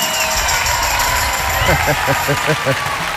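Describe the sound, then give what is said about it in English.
A large audience claps and cheers for a singer about to perform a new twist on a very old song, in a steady, dense wash of noise, with a few rhythmic vocal whoops or shouts standing out briefly near the end. “This is a new twist on a very old song with my ex-husband actually singing, so I'd like to give a round of applause”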